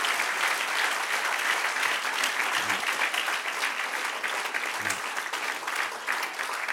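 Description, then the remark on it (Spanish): A crowd applauds steadily for several seconds for the one who reigns and lives forever, a dense, continuous patter of many hands clapping at an even, moderate loudness with no voices standing out. “Denle un aplauso al que reina y vive para siempre.”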